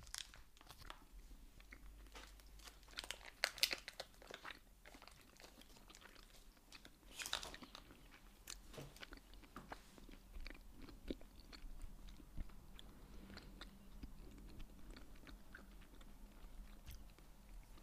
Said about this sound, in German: Es schmeckt. Moment. Es schmeckt. Moment. Ich hab den großen Bissen genommen.